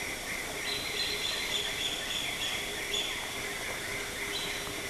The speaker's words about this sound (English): This was definitely from a black-faced rufous warbler. Recording distance, about 5 meters.